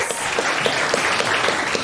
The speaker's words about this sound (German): Ein großer Applaus für die letzte Gruppe.